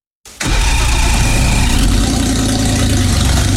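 A car engine in need of a new exhaust starts abruptly and settles into a loud, rough idle with a heavy rumbling, rattling exhaust tone, continuous, no voices.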